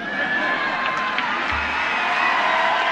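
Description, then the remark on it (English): A large crowd at a dinner in a packed hotel ballroom cheers and whoops continuously as former Vermont governor Howard Dean enters, a dense, loud roar of voices with occasional higher shouts rising above it. “The former Vermont governor got an enthusiastic welcome as soon as he entered the packed hotel ballroom.”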